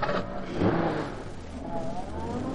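A truck engine revs loudly, its pitch rising and falling as the truck is driven off in a hurry, with steady road rumble underneath and no voices.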